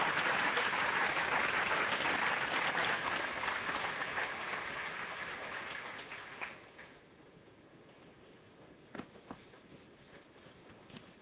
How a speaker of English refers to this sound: We're pretty much staying on time, and I think we should give our panelists and Tom Friedman another round of applause. I think they did a great job.